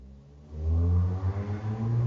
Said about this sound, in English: That's someone on a motorcycle.